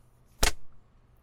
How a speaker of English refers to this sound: Oh, how does that feel? The leather slapping your thighs like that? I bet it stings, even through your pants.